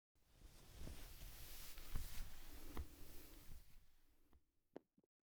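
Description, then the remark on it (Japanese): A few muffled, low heartbeat thumps of an older sister, heard while being hugged, about a second apart, soft beneath steady fabric-like rustling, which fades out and ends with a couple of small clicks. “お姉ちゃんの心臓の音、聞こえる？”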